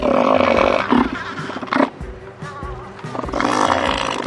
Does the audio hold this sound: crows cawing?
no